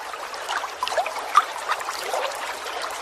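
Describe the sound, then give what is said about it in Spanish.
Water from a tap trickles steadily, with a couple of brighter plinking drops standing out around the middle; no voices. “Hablamos del sonido del agua o de ese eco que genera cuando la gota cae del grifo.”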